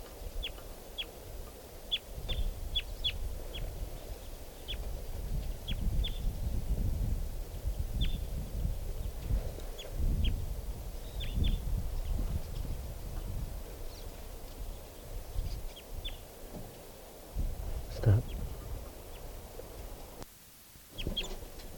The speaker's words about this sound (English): Here's a crossbill. Three crossbills there.